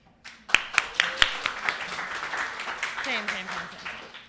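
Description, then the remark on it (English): A crowd bursts into applause, with a few sharp claps standing out over a dense patter of hands, while voices call out and cheer through it. “Round of applause. You have to clap, yeah. You got to clap.”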